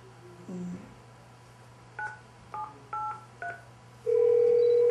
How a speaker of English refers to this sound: So, for example, I'm going to call up my office phone from here, okay. From the conference room.